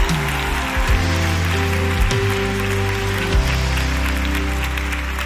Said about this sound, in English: In Jesus' name, clap those hands, give God praise.